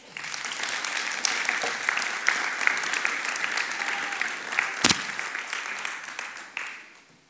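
A crowd applauds steadily, a dense wash of many hands clapping at even loudness for several seconds, with a few sharper claps standing out before it tapers off at the end.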